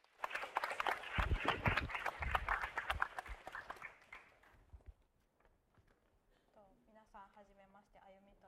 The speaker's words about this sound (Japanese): Give her a hand of encouragement. 励ましの拍手をお願いいたします。